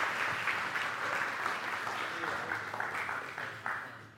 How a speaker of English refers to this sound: Yes, let's give him a round of applause.